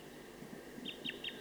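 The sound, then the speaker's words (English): A wild bird calls rapidly from a tree about 50 meters from a net site, giving a quick series of four or five high, thin notes over a steady low background hum. The calls are fairly faint and there is no talking. “Calling rapidly. Stop. So recording that bird again.”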